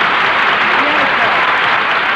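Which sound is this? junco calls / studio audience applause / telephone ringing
studio audience applause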